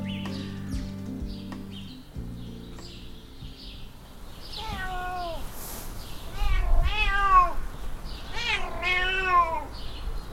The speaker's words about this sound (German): Dieses Miau hat schon die alten Ägypter verzückt. Ich bin im Felidee Wildkatzen- und Artenschutzzentrum Barnim bei Berlin. Und vor mir im Gehege sehe ich die Urahnen unserer Hauskatzen, Falbkatzen